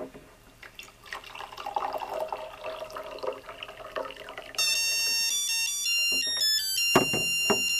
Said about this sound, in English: So I stopped pouring because the Musical Alert has alerted me that the cup was full, and I'm going to remove it now.